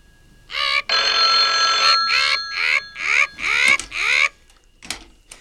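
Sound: telephone bell ringing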